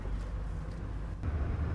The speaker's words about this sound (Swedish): Hör den lilla Peugeot-kabben brumma igång.